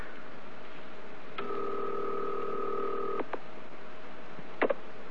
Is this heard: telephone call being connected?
yes